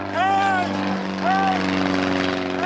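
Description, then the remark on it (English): A propeller airplane drones steadily and loudly overhead around 6 or 7 in the evening on a Tuesday, its engine hum constant throughout, while a man desperate for the pilot to see him shouts "Hey!" twice over the noise. “Around 6 or 7 in the evening on Tuesday, I was laying over by my fire when I heard the sound of an airplane.”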